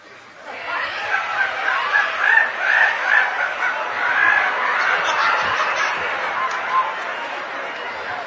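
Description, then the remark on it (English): A group of people loudly imitate monkey screeches, a shrill, overlapping chorus of whoops and shrieks that keeps going without a break for several seconds. “And then they would screech just like the monkeys.”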